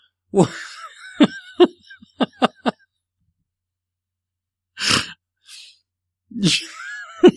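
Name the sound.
throat clearing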